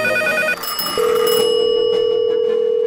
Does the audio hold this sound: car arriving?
no